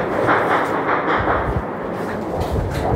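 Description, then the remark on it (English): A dense, continuous rumble of heavy celebratory gunfire outdoors, many overlapping shots blurring into a loud roar with occasional deeper thumps standing out, no voices in the foreground. “Hey, there's like a lot of gunfire happening right now. I can hear that.”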